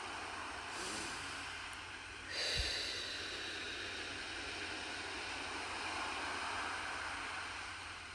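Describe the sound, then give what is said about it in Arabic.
Steady, broad wash of ocean surf rolling onto the shore, with gentle swells rising and falling over several seconds; no voices, just continuous moderate-level wave noise. “خلي صوت الموج ياخدنا ويجيبنا بكل أمان نحن وقاعدين على الشط.”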